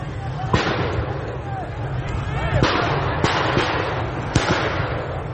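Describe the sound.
Around five sharp, loud gunshot cracks ring out at irregular intervals as security agents fire directly at protesters in Isfahan, over a steady crowd hubbub with indistinct shouting voices.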